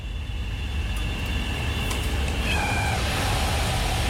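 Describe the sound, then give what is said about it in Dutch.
A lab flow cabinet, just switched on for sterile work, sounds a steady, very loud, high electronic alarm tone over a constant rushing airflow starting up. Partway through, the tone shifts and a lower tone joins it while the airflow keeps running. No one speaks. “Nou, als we die aanzetten, dan geeft het een hele harde piep. En die zetten we dan meteen altijd even uit. En dan hoor je de luchtstroom, als het goed is, al opstarten.”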